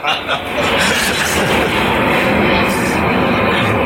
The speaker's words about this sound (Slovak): No, lietadlo. Áno, nedaleko to letisko.